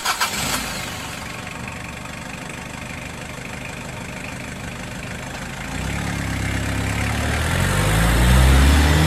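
A car engine cranks and catches with a brief burst near the start, then settles into a steady idle before the revs rise and deepen toward the end. No one speaks.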